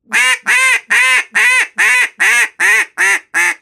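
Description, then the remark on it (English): A duck call blown in a loud hail (greeting) call to get the attention of ducks flying across a lake: nine evenly spaced, raspy quacks in a steady rhythm, clear, tapering slightly toward the end, with no talking over it. “So you're going to use your hens and what we'll call, I don't know, a hail call, a greeting call, and I'll blow that for you.”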